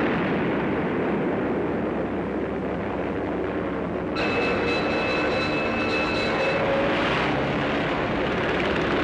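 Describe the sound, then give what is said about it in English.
Steady, loud engine roar of an unknown aircraft passing over Sea Beach and dropping bombs in wartime fills the whole stretch. Midway a sharper, high whining tone cuts in and holds for a couple of seconds, with no distinct explosion bursts standing out. “The unknown aircraft passed over Sea Beach and dropped bombs.”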